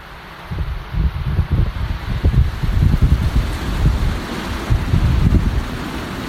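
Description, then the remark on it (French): Strong mistral wind blows steadily in Salon-de-Provence, France, buffeting the microphone with low, rumbling gusts that swell and ease over a continuous airy roar; no voices are heard. “Et c'est sous le Mistral que débute l'histoire du petit Olivier.”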